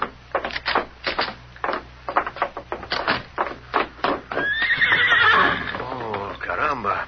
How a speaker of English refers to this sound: I saw that white horse you rode